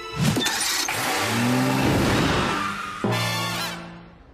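A car engine strains and sputters as the car breaks down after its ray device overheats and misfires, a whining, grinding mechanical drone that swells, cuts out abruptly, then resumes briefly before fading. Loud, with no voices.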